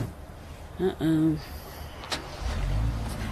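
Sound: car driving off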